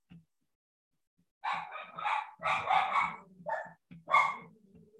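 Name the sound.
dogs barking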